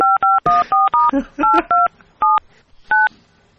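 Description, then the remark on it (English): A rapid run of telephone keypad tones as someone phones Scotland Yard, about a dozen short two-pitch beeps in an irregular rhythm, loud, with some faint background noise between presses and no talking. “I'm on the phone to Scotland Yard as we speak.”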